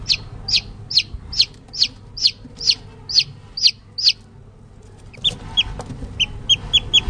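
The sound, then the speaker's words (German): Newly hatched chicks in their enclosure in a closed-off room peep in high, thin bursts, a steady run of about a dozen calls, a brief lull, then a quicker cluster of peeps over a low background hum. “Vielleicht hören wir sogar, wie sie zu piepen beginnen.”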